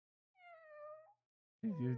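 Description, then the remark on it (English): A person imitates a cat with a drawn-out, wavering meow, then after a short pause lets out a second, rougher and louder yowl. “I think you have maybe a secret hidden skill to make animal noises. Can you do a cat?”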